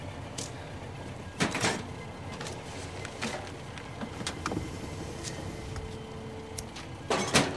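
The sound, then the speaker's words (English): A saloon car's door slams shut with a solid thud as a man gets out in the driveway of a large lamplit house at night, and a second slam follows several seconds later, both over a low, steady outdoor background hum. “As the man gets out and slams the door, the young woman with tears in her eyes starts.”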